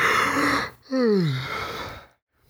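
One person lets out an exaggerated, put-on yawn: a breathy intake, then a voiced groan sliding downward in pitch before trailing off. It is fairly loud and has no talking.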